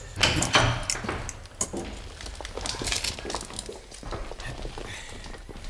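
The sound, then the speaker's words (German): The heavy door of the evidence room at a police headquarters is pulled open with a burst of clattering and scraping near the start, followed by lighter rattles and shuffling movement. “Und jetzt öffnen Sie bitte die Asservatenkammer.”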